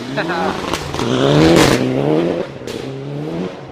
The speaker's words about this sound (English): Getting down quite low, and hang on, there's a car coming. Oh, he's hit the bank.